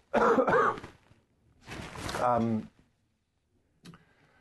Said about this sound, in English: I'm just going to have a cough, sorry.